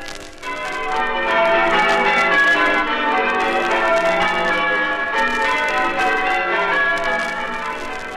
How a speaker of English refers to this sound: And those bells of All Saints Church at Eastbourne were being rung by 8 men chosen from 130 or so delegates from all over the country who had come for the annual conference of church bell ringers.